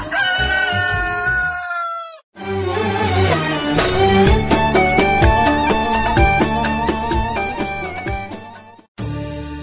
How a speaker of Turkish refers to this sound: Evet, horozun sesini duydunuz Denizli'den sevgili dostlar